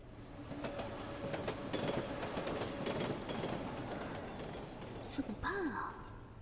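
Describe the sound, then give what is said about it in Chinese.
A crowded subway train in the morning rush hour sways, rumbling and rattling steadily along the tracks, with repeated sharp clacks over a loud, continuous roar; a brief breathy vocal sound rises near the end. “平时也没觉得地铁这么晃荡啊，今天这是怎么了？”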